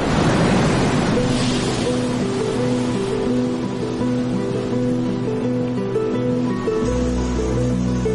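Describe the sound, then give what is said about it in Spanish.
Pacific Ocean surf along the coast by the city of Chan Chan washes in with a broad, hissing roar that is strongest at the start, set against a steady, sustained musical drone. A deep low rumble swells near the end. “Situado a lo largo de la ciudad de Chan Chan, está el poderoso Océano Pacífico.”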